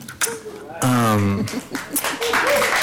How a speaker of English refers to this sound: So you said that you're the only one. So yeah, we're clapping for the first, not the only.